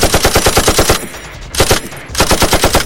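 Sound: gunshots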